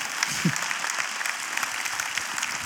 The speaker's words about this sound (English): And we got somebody over here who's been trying to clap for like the last 10 minutes. Go ahead and let it out, all right?